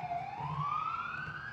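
A siren wails steadily upward in pitch, a single rising tone with a low rumbling hum beneath it, heard alone at moderate volume.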